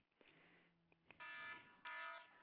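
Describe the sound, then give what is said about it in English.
An alarm clock blares in two loud, buzzy electronic bursts, each lasting about a third of a second with a short gap between, with no talking. “I woke up before my alarm.”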